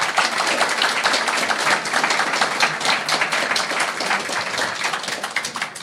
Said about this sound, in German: Danke an alle Wichtel. Ein Applaus dafür auch bitte.